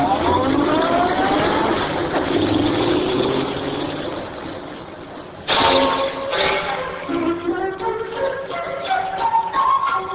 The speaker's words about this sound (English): A car drives away.